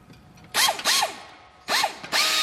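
A power drill or screwdriver whirs in four short bursts, two quick pairs, each revving up sharply and then spinning down in pitch, as five mechanics work on the chassis of a small electric car in a car workshop in Fällanden, Zurich, with no talking.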